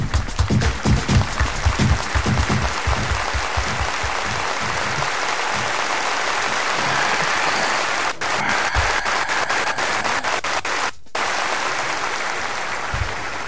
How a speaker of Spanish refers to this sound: Cómo aplauden.